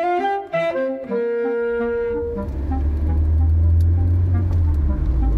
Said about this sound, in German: Fragt mich Mama, während wir im Auto zu Tante Emmy fahren.